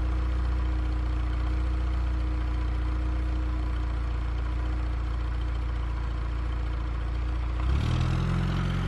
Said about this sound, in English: Mama Jai and JP both look up when a car full of people pulls in front of Mr. Wilson's house across the street.